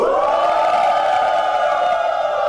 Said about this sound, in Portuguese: Olha, faz tempo que a gente não coloca essa vinheta, ainda bem, mas infelizmente aconteceu nessa rodada. Ela está de volta, aquela que todos temem, as vaias.